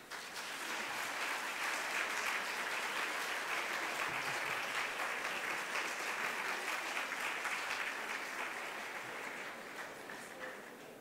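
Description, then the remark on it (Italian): A crowd applauds steadily for about eleven seconds to welcome a priest who came from Fossano, a dense wash of many hands clapping at once that holds its level, then thins slightly toward the end. “Un applauso.”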